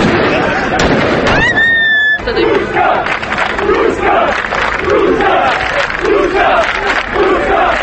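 A large crowd in Sandžak, Serbia, with a Turkish flag, chants "This is Turkey" in a steady rhythmic cadence amid constant cheering after Serbia's basketball team lost to Turkey at the world championship, with sharp firecracker pops and a brief rising whistle early on, all loud and densely layered.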